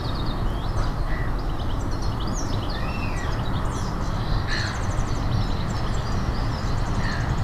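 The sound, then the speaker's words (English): Birds sing and chirp outdoors, a busy mix of short trills and repeated high calls over a steady, rushing low background noise. No one speaks. “The sound of my voice, birds, the wind, whatever sound that you can hear, and just let every sound you hear relax you just a little bit more.”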